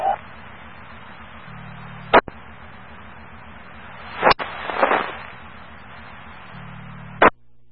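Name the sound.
fireworks being set off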